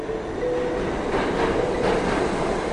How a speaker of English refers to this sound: A year ago, my day would start with a train ride alongside thousands of fellow commuters into Manhattan.